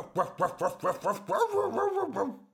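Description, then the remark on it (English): A human voice imitates a dog barking: six quick, evenly spaced yaps, running into a few longer, drawn-out bark-like calls that trail off. “The dog barked.”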